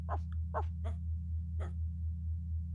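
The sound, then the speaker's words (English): A person imitates a dog whining, four short, high, whimpering yelps in quick succession, then a pause before the last, over a steady low electrical hum. “You don't have to talk. You can just make doggy noises instead.”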